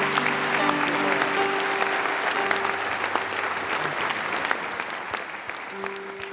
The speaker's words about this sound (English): With a clap offering, thank him, would you?